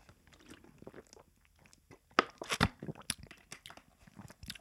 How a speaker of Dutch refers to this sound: Even een slok water, hè.